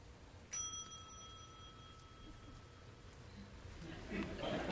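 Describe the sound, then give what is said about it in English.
A single bright bell ding rings out clearly, its tone lingering and slowly fading over a couple of seconds against a low, steady background hum. “We know for whom the bell tolls.”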